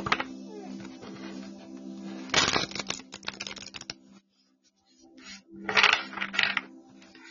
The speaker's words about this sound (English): She stops what she's doing and turns around every time I shuffle. I think it's funny.